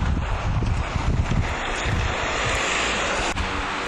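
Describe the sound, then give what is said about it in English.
A steady, dense hiss of heavy rain pours down outdoors as someone walks home, with gusty low rumbles of wind buffeting the microphone in the first second and a half. No one speaks. “So as you may be able to hear from the ambient wet sounds around me, it's pissing it down.”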